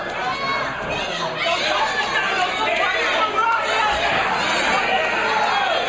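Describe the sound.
A loud, rowdy crowd of spectators roars and chatters continuously, dense overlapping voices filling the space with a steady, excited din throughout.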